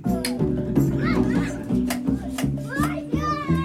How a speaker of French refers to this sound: Là, il y a des enfants qui jouent à côté pendant que la grand-mère est dans le hamac.